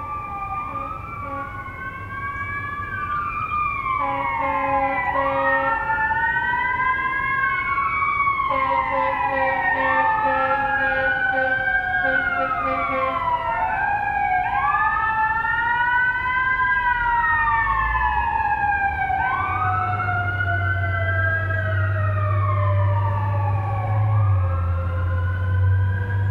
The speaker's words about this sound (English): I'm putting this in here for a control. This is what I normally would expect. In a minute, I'll show you another recording of fire trucks, or at least one fire truck, that I most definitely did not expect.